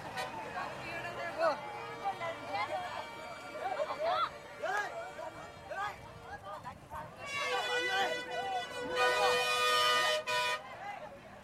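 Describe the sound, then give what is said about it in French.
Crowded traffic on the avenue through the old city in India, with camels, cycle rickshaws, bicycles, cars, pedestrians, buffalo, cows, horses and trucks moving both ways; car horns honk again and again, some long and sustained, over a steady murmur of voices and engines, building to a loud blaring burst near the end. “chameaux et cyclopousses, vélos et voitures, piétons, buffles, vaches, chevaux, camions en cohorte compacte le long de l'avenue qui traverse la ville ancienne et dans les deux sens.”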